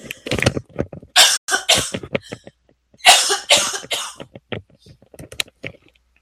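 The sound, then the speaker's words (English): Someone with a cold coughs hard in two bursts of several harsh, rasping coughs, separated by a brief pause, with quieter throat sounds and breaths before and after. “Oh, excuse me, I'm going to have to cough.”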